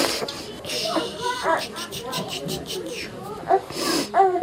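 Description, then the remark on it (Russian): A woman, a resident of besieged Mariupol, Ukraine, cries and sobs, with shaky, breathy gasps and broken, wavering vocal bursts that come in irregular waves and grow louder toward the end. “Ну не плачь.”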